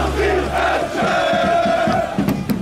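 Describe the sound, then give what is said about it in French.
A large crowd of football supporters, gathered together to back their team with one voice, chants in loud unison outdoors, voices blending into a steady rhythmic roar, with a low rumble at the start and sharp bursts near the end. “Ils ont décidé de venir aider leurs protégés, de les supporter d'une seule voix et de mettre une ambiance de fou qu'ils ne peuvent pas mettre dans le stade.”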